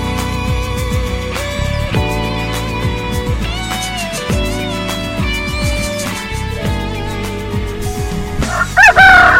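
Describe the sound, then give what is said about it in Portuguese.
A rooster in Rio de Janeiro crows loudly, its strained call rising near the end, over a steady bed of harmonic background music with no talking. “Olha aí, o galo, é o galo mais preguiçoso do Rio de Janeiro, pois é.”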